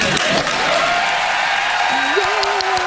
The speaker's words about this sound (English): Yay! Okay. Bunch of seals. there's an applause sign.